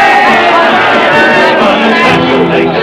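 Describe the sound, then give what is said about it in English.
A large crowd of Irishmen and English soldiers cheers and shouts together, a dense, loud, continuous roar of many voices that stays steady from start to finish. “Irishmen and the English soldiers cheering and shouting together, both glad tis over.”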